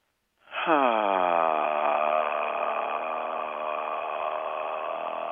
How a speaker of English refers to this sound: Generally, the note that is the easiest to make is the best to transmit love. And you can find that really easily by simply opening your mouth and breathing out with the least amount of energy possible. So it's like this.